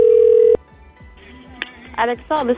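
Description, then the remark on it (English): A loud, steady telephone dial tone holds for about half a second and cuts off, followed by quieter line noise with brief electronic tones and chirps near the end. “They have a phone number that's not even in the right area code?”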